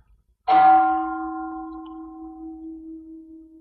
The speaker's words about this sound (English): Let's listen to the bell.